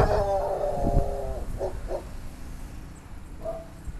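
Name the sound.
dog barking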